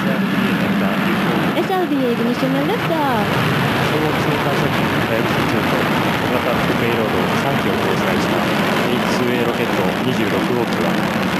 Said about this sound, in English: We had a liftoff of the H-2A launch vehicle number 26 with the Hayabusa 2 and 3 secondary payloads on board from the Tanegashima Space Center at 1:22:04 p.m. on December 3, 2014, Japan Standard Time.